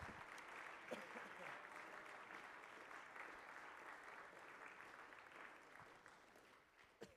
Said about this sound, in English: Would you clap your hands one more time for Jesus?